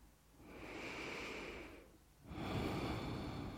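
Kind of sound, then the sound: human body sound, long deep breaths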